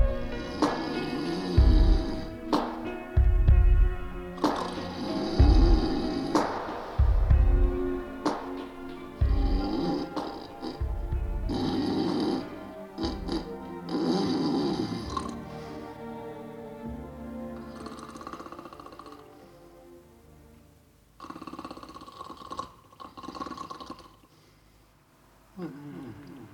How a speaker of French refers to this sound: Il y a encore la fameuse réverb qui arrive à la fin. Alors quand même, on sent que c'était... Ça, c'est fait au Revox, parce qu'on a la répète, là, tu vois. Qui fait vraiment chambre d'écho, quoi.